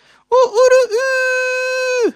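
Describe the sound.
A man's voice mimics a rooster's crow, copying and answering a neighbour's rooster: a few quick, wavering syllables followed by one long, loud, high-pitched held note that drops off sharply at the end.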